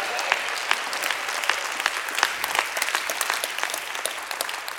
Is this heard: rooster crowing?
no